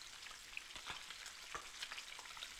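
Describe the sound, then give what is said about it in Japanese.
Chicken karaage frying in oil, with the remaining chicken pieces added: a steady, dense sizzle with scattered sharp pops and crackles, continuous throughout with no voices. “先輩、今度はちゃんと唐揚げの食べ頃の音聞き逃さないでくださいね。”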